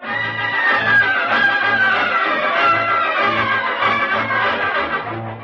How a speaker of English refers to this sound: Man 18 to 48, into the cattle cars. Close the doors. Lock them. Start the train.